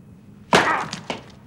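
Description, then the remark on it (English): A rock struck against hard crystal pressing around a person's boot shatters with a sharp crack, a brief splintering rattle of fragments, then a second, smaller crack a half-second later. No voices. “The rock shatters against the crystals.”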